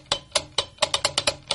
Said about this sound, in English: And they snapped the lights on and off.